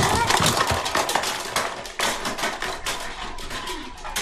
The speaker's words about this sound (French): Ce premier accident fait tomber les canettes par la trappe de l'escalier.